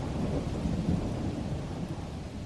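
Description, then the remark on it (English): A thunderstorm sound effect of a storm over the sea: a steady, low rumble of thunder rolls beneath continuous heavy rain, a dense storm wash that stays loud and even throughout without any voices. “The storm calmed and the ocean waters grew still, and Jonah began to sink down, down, deeper in the water.”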